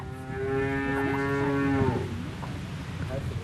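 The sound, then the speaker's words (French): A cow on a dairy farm moos once, a long, loud, harmonic low that holds steady for nearly two seconds before dropping off, followed by quieter farmyard background noise. “Ces vaches sont à ma tante.”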